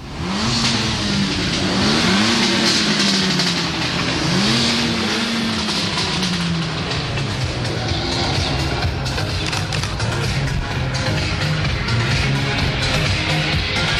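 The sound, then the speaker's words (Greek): The new racing car models of a well-known European car company rev loudly at a showcase event in front of Ceaușescu's palace. The pitch climbs and drops in several sharp sweeps early on, then settles into a steady, dense roar that fills the whole fourteen seconds. “Μια γνωστή ευρωπαϊκή εταιρεία αυτοκινήτων έχει στήσει φιέστα μπροστά στο παλάτι, παρουσιάζοντας τα καινούργια αγωνιστικά της μοντέλα.”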